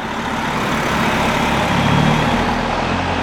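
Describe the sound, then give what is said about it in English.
A Greyhound bus engine rumbles steadily, a continuous low droning hum with a broad wash of road noise, holding at a fairly loud level throughout with no voices. “The answer is on a Greyhound bus traveling through history.”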